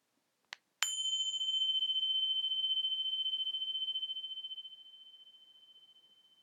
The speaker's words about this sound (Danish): Meditationen starter, når klokken ringer.